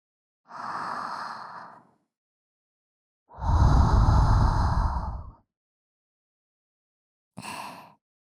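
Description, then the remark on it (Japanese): Three soft, airy breaths blown into the ear in slow succession, after an ear massage and ear hair shave: a gentle medium puff, a longer fuller one with a low rushing body, then a short light exhale. No talking. “お店の外でされた時より、吐息がふわふわって、耳の中に入っていくの。”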